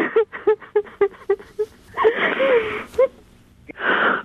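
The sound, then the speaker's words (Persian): A woman cries with emotion up close: a quick run of short, choked sobs gives way to long, breathy wailing gasps, then one more shaky sob and a final drawn-out cry. “سلام خانم چطوری؟ سلام. حالت خوبه؟ باش گریه نکن. چرا گریه نکنی؟”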